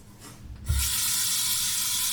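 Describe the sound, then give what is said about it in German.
A tap is turned on to let some water in, and a steady, loud rush of running water follows with a low thump at the start, continuing evenly to the end. “Ich lasse schon mal ein bisschen Wasser rein, ne?”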